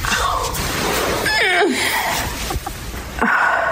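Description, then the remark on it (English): A woman with back pain lets out strained vocal groans as she gets up, including a drawn-out moan that slides downward in pitch and a shorter grunt near the end, over steady background noise. “Listen to these grunts and moans I've recorded of her and tell me that she isn't exaggerating it”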